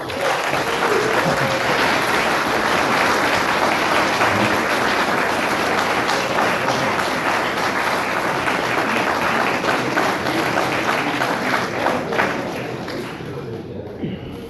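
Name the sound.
audience applause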